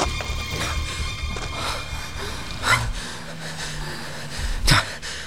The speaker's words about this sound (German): Erst als sie der National Recreation Area entkommen waren, blieben sie keuchend und erschöpft am Rand der Straße stehen.